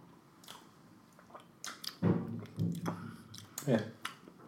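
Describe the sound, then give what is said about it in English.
Sipping of a 10-year-old whiskey: a few short slurps and wet mouth sounds spread over several seconds, with low murmured hums in between and faint background noise. “Let's go ahead and sip.”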